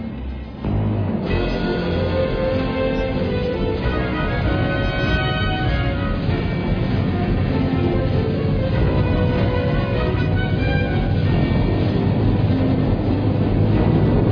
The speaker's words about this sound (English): Now he tries to get away with warp drive. He's really in for a shock.